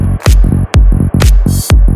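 A heavy electronic bass drop: loud, booming low hits that sweep downward in a steady driving rhythm, punctuated by sharp claps, with no voices.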